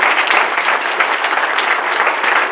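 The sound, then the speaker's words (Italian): Sustained applause from an audience in tribute to the late Candido, a dense, steady wash of many hands clapping at once, fairly loud and continuous with no voices over it. “L'applauso naturalmente va a lui.”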